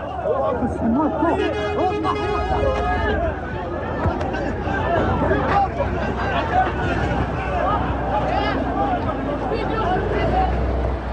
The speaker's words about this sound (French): Les premiers camions chargés d'aide humanitaire arrivent. Mais ils roulent trop vite pour tenter de grimper sur la remorque. Un peu plus loin, la foule est parvenue à prendre d'assaut un chargement.